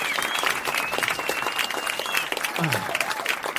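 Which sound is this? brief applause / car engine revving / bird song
brief applause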